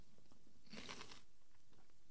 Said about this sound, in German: Kannst du mich hören? Oder knusperst du zu laut?